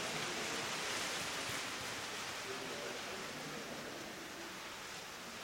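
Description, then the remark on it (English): A steady, dense rushing hiss like a heavy downpour pours on without a break for about five seconds, broad and even, easing only slightly toward the end. “Sounds like a downpour.”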